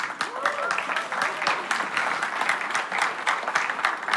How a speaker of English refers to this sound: They love you. They clap for you, baby.